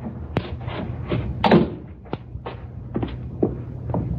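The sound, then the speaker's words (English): A heavy cellar door gives a series of dull thuds and knocks, several sharp bumps spread over a few seconds with shuffling movement between them, with no voices. “That's the cellar door.”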